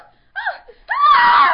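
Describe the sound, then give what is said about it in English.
A voice performs a scream: a couple of short, rising cries break into one loud, shrill, sustained scream that rasps with strain at the end, with no other sounds. “Darlene screamed.”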